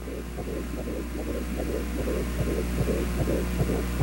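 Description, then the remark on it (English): A recording of a baby girl's fetal heartbeat while still inside her mother, made over 22 years ago and played on the radio: a rapid, steady run of whooshing thumps, roughly two per second, over a constant low electrical hum, with no voices. “And that's when she was still inside her mother. That was her little heartbeat.”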